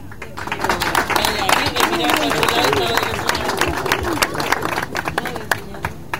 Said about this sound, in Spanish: ¡Aplauso, maestro!